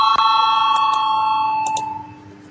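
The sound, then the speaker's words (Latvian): A voting bell in parliament, rung for a vote on the responsible committee's 13th proposal, sounds with a steady, bright metallic tone, punctuated by several sharp strikes, then fades out over the final half second. No one speaks. “Lūdzu zvanu, balsosim par 13. atbildīgās komisijas priekšlikumu, lūdzu balsosim.”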